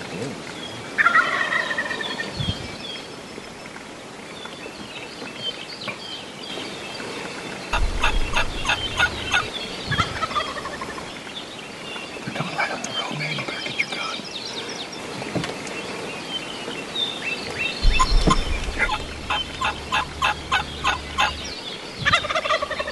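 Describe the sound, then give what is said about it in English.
Two wild turkey gobblers following one hen gobble repeatedly outdoors, loud rattling bursts coming in several bouts, one answering another, with lighter bird calls and low rumbling sounds in between. “Two gobblers following one hen.”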